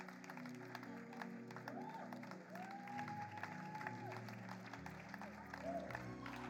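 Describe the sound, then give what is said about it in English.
An audience on its feet claps steadily and continuously to welcome a pastor, a dense, even wash of many hands, with sustained keyboard-like musical chords and a few rising tones playing underneath. “Let's keep clapping.”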